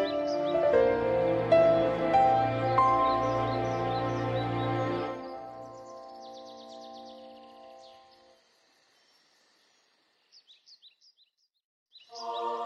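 A bright, piano-like birdsong runs through rapid stepping notes that ring on and slowly fade, followed after a pause by a few faint, short chirps.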